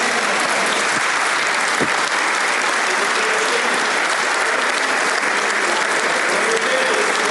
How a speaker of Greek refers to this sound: Και ακολούθησε, Γιώργο, πολύ θερμό χειροκρότημα.